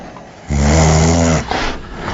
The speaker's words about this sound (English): can't stop your dog's snores from keeping you awake.